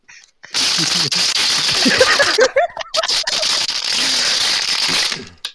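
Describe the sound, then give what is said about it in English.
A plastic water bottle rubs and crinkles right against a microphone, producing loud, harsh rustling and crackling bursts that run for several seconds with a brief break in the middle. “Yo, get your water bottle off the mic.”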